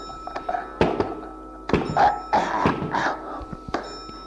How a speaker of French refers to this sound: L'on frappe à la porte. Cogne.